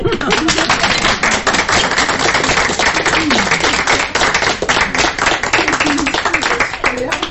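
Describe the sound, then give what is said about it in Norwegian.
A crowd applauds the spokesperson steadily for several seconds, a loud, dense patter of many hands clapping at once, with a few voices faintly audible underneath. “Da sier jeg takk for praten, jeg, og så tror jeg da at dere utbørlige talspersonen trenger en liten applaus.”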